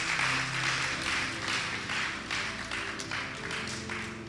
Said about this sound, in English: Just clap for them. tubakubireko mu ngalo.